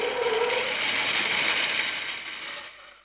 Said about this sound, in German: Der Meister Eder hat die Säge eingeschaltet